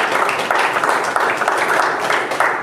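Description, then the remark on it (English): A crowd claps steadily for the Lord in church, a dense wash of many hands applauding together, sustained and even throughout with no voices rising above it. “Give the Lord a hand of applause in his house.”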